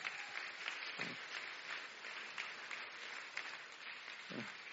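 A crowd claps for Jesus in sustained, dense applause for several seconds, with many hands blending into a steady wash and no one speaking over it.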